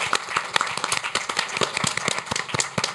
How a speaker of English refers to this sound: Let's give him a warm round of applause.